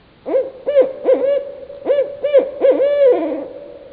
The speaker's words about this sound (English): We, just yesterday, I was hearing the hoo-hoo, who cooks for you? Yeah. Coming from the island across the lake from us.